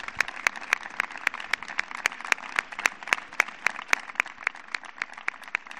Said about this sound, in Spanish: Después de las 12 y un minuto sonaron los aplausos en María Pita.